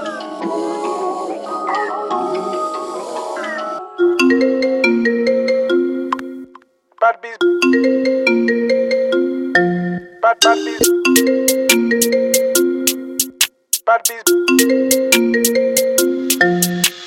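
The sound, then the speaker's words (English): A bright, looping electronic phone ringtone melody repeats several times, loud, punctuated by sharp clicky percussive hits, after a brief opening stretch of voice-like sound. “Sweet one answer this ringtone, did my time and now time it flew.”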